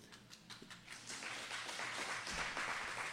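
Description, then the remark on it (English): An audience breaks into applause, starting with a few scattered claps and swelling into a dense, steady wash of clapping that stays loud to the end. “You're clapping because you didn't believe I could make it that long.”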